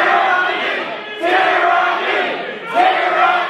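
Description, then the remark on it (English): Protesters at the Michigan Capitol building shout at police loudly and continuously, many voices overlapping into a dense roar, with two sharp surges of louder yelling about a second and a half apart. “Now, going to a protest with guns and screaming at police would not happen in Vietnam.”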